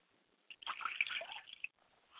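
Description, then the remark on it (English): Liquid is poured as a ritual libation to the east in one short splashing stream lasting about a second, fairly quiet, with soft dribbles trailing off afterward and no voices. “I pour libations to the east, and I say Ashe.”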